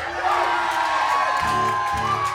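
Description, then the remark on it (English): A concert crowd cheers and whoops loudly and steadily for a couple of seconds, voting by applause for which song the band should play, a dense wash of voices and shouts with no clear pauses. “Now we're going to do this in an orderly applause-o-meter style fashion.”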